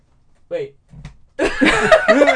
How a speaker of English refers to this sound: So I get a light slap. You'll get a light slap.